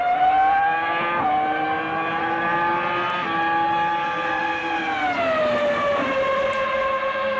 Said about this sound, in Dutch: Er werd ook een Formule 1-auto van Michael Schumacher geveild. Ja, de Ferrari F300 uit 1998, chassisnummer 187. Een originele auto nog, met dit heerlijke V10-geluid.